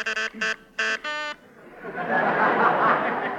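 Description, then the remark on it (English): An office intercom buzzer, pressed to summon the agency gag man, sounds in four short, harmonically rich buzzes with brief gaps between them, then gives way to a swelling, hissy wash of noise that grows steadily louder. “But, B.B., Miss Yuck, buzz for our agency gag man.”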